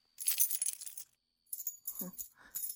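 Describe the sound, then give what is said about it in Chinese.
A bunch of keys that someone found and picked up jangles in two bright, metallic bursts separated by a short pause, with the second shake more clinking and uneven than the first. “对，这是我的钥匙。”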